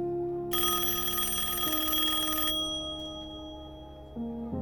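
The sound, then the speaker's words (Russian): A telephone rings with a bright, shrill burst lasting about two seconds, then its tone fades while a low sustained hum continues beneath, with no voices present. “Телефон, как назло, зазвонил именно в тот момент, когда ей впервые за эту ночь удалось провалиться в безмятежность.”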